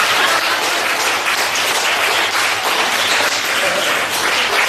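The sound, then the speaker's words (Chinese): A large crowd applauds steadily, a dense, loud wash of many hands clapping at once that holds evenly for about five seconds, with no voices rising above it. “现在掌声已经达到800人的想象了。”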